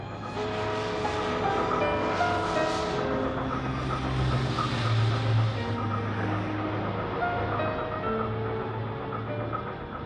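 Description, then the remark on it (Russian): A steamship's engine, recorded aboard the steamship, drones steadily and monotonously for the whole stretch, a constant mechanical hum with a low throb and layered tonal whine, never rising or falling. “Вот сейчас мы пишем на пароходе.”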